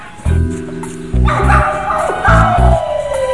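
A stolen dog lets out about five short, loud barks in uneven bursts while a high, drawn-out whimper slides slowly downward, with no talking.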